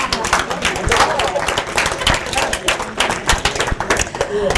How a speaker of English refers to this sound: That's all right. You go right ahead and clap.